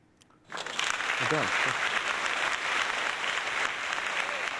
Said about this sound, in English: Thank you, thank you, thank you. You guys don't have to clap every time I move around.